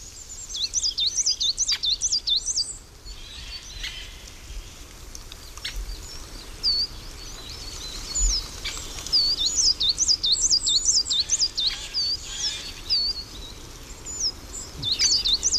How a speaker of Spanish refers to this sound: Reclama un carbonero garrapinos, a compás, bichi, bichi, bichi, parece que lleva un metrónomo dentro,